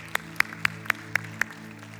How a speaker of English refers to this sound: Can we give God a hand clap this morning?